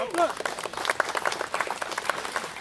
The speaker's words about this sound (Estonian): Täna on sind austamas Moldova His Excellency, tema Excellency ja Gruusia ambassador, tema Excellency, suursaadikud. Siin nad on, teeme aplausid!